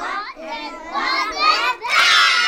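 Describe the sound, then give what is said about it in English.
A chorus of 3- and 4-year-old children chant a familiar rhyme together at circle time in a Head Start classroom in Laramie, Wyoming, in loud, high-pitched unison, their voices rising and falling in sing-song phrases before breaking into a brighter, shouted burst at the end. “It's circle time in a Laramie Head Start classroom, and a chorus of lively 3- and 4-year-olds is belting out a familiar rhyme.”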